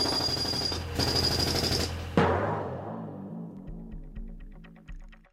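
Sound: power drill running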